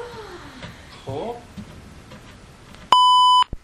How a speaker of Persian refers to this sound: خب چرا بوق میزنه به نظر تو؟